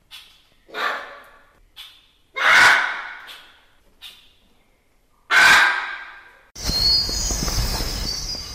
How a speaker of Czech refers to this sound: Kdo jste typoval exotické papoušky, máte pravdu. Žije tu na 40 druhů vzácných ptáků, z nichž některé pražská zoo chová jako jediná zoo v Česku či dokonce v celé Evropě.